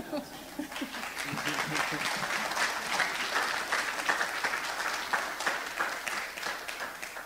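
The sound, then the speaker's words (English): A church audience bursts into sustained applause, a dense, steady wash of many hands clapping that holds at an even loudness for several seconds without letting up. “Now, if y'all would have applauded like that for one of the guys, when you didn't applaud, I would have been jealous, but not for my wife.”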